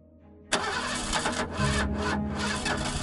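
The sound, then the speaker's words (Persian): A jeep engine cranks and catches after a brief quiet moment, then roars into a loud, rough idle with uneven revving surges as the jeep is readied to set off, with no voices. “صابری برو برادر اصفهانی رو خبر کن جیپ آماده حرکت کنه.”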